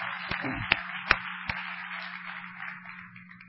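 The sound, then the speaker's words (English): A church audience applauds to thank its drama team: a steady, hissing wash of many hands clapping, with a few sharper individual claps standing out early on, tapering slightly toward the end over a low steady hum. “And as you guys are coming in, could we just take a moment and thank our drama team for, through applause, for the way that they bless our church time and time again.”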